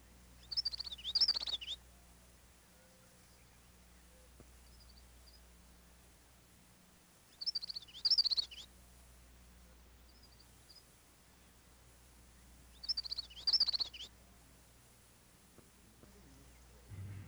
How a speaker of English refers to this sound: The yellowthroat, also a warbler, sings its rollicking witchety-witchety song from marshy thickets and lake margins.